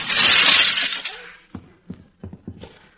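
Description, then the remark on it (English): A loud crash of window glass being smashed, a bright burst that fades over about a second, followed by several scattered tinkling and clattering hits as shards fall. “Oh, open the door, the window, anything. No, I'll smash it.”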